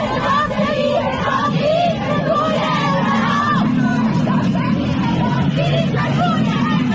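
A large crowd of protesters, including women, shouts and yells slogans together in a street protest in Sistan on a Friday, voices raised, loud and continuous for the whole stretch with a dense babble of many people underneath.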